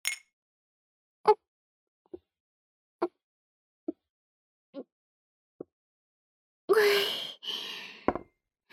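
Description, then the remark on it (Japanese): Someone drinks milk after a bath, swallowing in six steady, evenly spaced gulps, then finishes with a long, satisfied exhale and a soft breathy sigh. “全部飲んじゃいました。”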